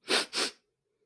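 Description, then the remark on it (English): A single loud sneeze from a person who is under the weather with a sore throat and cough, in two quick bursts, a sharp intake-like rush followed by the explosive release, then silence. “And sneezing sometimes.”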